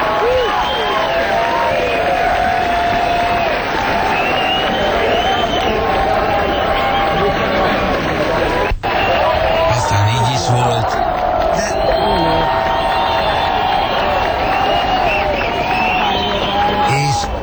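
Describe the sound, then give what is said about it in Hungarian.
A large concert crowd roars continuously, dense shouting and cheering with whoops rising out of the din, loud and sustained throughout with a brief dip midway. “Aztán a tömeg még így is hovált.”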